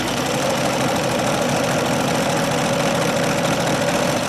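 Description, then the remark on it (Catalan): A sewing machine runs steadily for several seconds, a continuous mechanical whir with a rapid, even knocking rhythm at constant loudness and no voices. “No, això és una màquina de cosir.”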